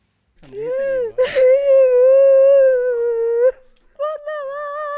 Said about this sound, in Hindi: लेकिन कुछ ही मिनटों के बाद वे दहाड़ मारकर रोने लगी।